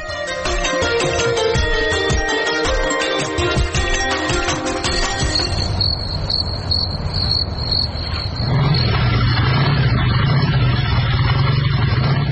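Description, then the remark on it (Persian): A motorcycle approaches, its low, steady engine drone swelling up over the final few seconds, after a stretch of dense clattering noise and a thin high-pitched whine. “قماندان سب، موتورسیکل والا نزدیک شد، حالا دیگه دورش بدیم.”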